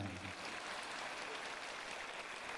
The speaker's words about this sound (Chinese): 说的响一点好不啦？你说的响，他们鼓掌鼓的响；你说的轻，他们鼓的轻。